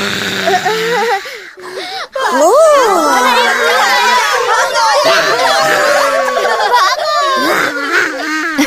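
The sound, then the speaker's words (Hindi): A boy imitates a spooky ghost voice for his teacher and classmates at school, drawing out long wavering moans that swoop up and down in pitch, loud, with other children's giggles and chatter mixed in. “भूत की आवाज भी बिल्कुल सही निकालता है।”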